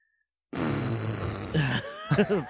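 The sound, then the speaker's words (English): A person blows a long, sputtering raspberry imitating a fart, loud, trailing off into a few wobbly voiced squeaks near the end after a moment of silence. “fart noise.”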